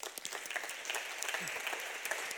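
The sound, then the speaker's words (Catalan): An audience applauds Aurora Carbonell, the mayor of Sitges, many hands clapping in a dense, continuous patter that stays at an even, fairly loud level throughout with no voices on top. “Per tant, ara sí, amb tots vosaltres, Aurora Carbonell, i demano un fort aplaudiment per ella.”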